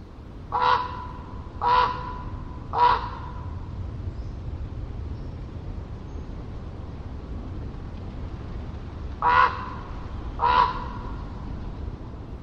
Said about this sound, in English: A raven's call is complex. Researchers have identified 33 different vocalizations, all based on context and sound and proximity.